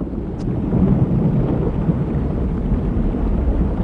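A thunderstorm from an approaching very low pressure system fills the scene with a deep, continuous rumble of thunder over a steady wash of rain and wind. It is loud throughout, with no voices.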